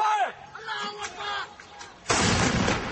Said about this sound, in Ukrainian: Але звук артилерійного вогню не може перекрити голосів, які дедалі гучніше звертають увагу на слабкі місця у новій стратегії Вашингтона щодо цього регіону.